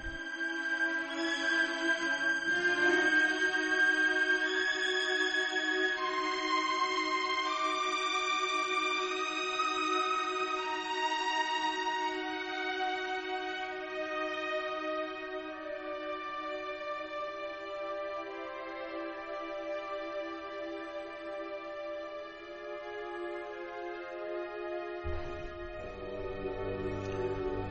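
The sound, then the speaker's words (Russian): Slow orchestral music from a Shostakovich symphony, with long, sustained string-like tones layered in harmony, holding a steady, fairly loud level throughout with no talking; a deeper, fuller low register enters near the end. “Сейчас мы вернемся к Шостаковичу. Пусть позвучит немножко его гениальная музыка.”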